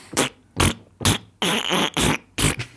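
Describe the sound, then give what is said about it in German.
A rapid series of about six loud fart sounds, short blasts and a couple of longer ones, following a bouncy, tune-like rhythm with no talking. “Wer hätte es wenigstens versuchen können, die Melodie zu pupsen?”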